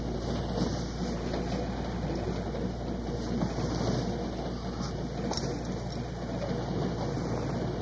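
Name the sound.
rain beginning to fall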